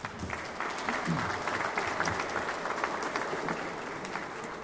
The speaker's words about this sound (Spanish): Un aplauso, por favor.